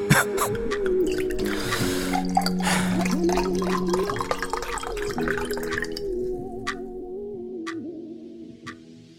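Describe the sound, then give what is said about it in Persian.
Water pours with a gurgling, rising tone for several seconds, then a few sharp, separate gulps or clicks follow in near-silence, like someone drinking. “یه دونه آب به من بدیم.”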